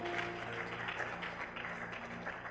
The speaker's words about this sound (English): And we all clap in the movie. E nós dizemos, wow, artista. We all clap in the movie.